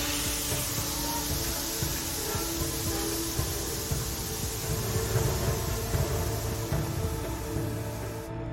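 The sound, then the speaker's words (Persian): A steady, loud rush of hissing steam fills the whole clip as a pressure valve is turned in an engine room beside a furnace, broad and unbroken, with a low mechanical rumble and faint tonal hum underneath. “کوفان توی موتورخونه کنار کوره. شیر فلکه فشارو میچرخونه.”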